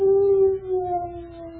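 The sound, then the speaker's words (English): A gloomy dog lets out a long, mournful howl, a single sustained tone that slowly sinks in pitch, loud with no one speaking. “And because Jimmy was so gloomy, Jimmy's dog felt gloomy, too.”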